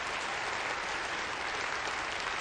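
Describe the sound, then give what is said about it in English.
Sustained audience applause, a dense, even wash of many hands clapping at steady loudness throughout, with no voices standing out above it. “Let's give a round of applause for him.”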